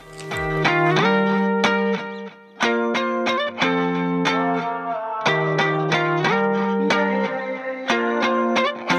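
A pop song plays loudly and steadily, built on bright, effects-laden electric guitar chords struck in a rhythmic pattern with sharp, regular accents; no singing is heard.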